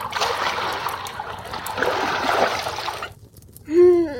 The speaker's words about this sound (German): Danach erwärmten sie Wasser auf der Kochstelle in der Küche und füllten damit die Holzwanne.